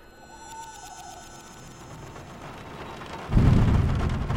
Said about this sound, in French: Le lendemain matin, réveillé par une forte tempête, je me levais et vérifiais que la fenêtre était bien close.